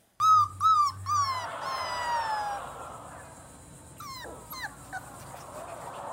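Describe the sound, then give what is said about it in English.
High, thin whimpers and squeaky yips from a newborn puppy just days old, several quick cries at the start trailing into softer whining and a few sharp yips, fairly loud. “Why can't they stay puppies forever?”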